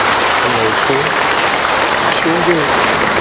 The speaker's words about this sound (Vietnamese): Xin cảm ơn sự hiện diện của anh chị em. Chúng ta chào nhau một tràng pháo tay thật lớn thưa anh chị em.